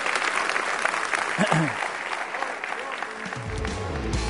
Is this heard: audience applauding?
yes